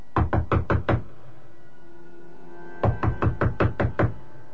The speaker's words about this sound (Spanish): Sin pensarlo dos veces, subí y llamé a la puerta.